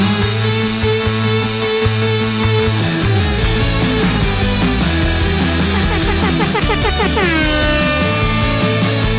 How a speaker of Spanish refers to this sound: Volvió a decir a los controles, volvió a la bocina.